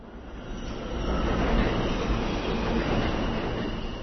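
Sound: subway train in station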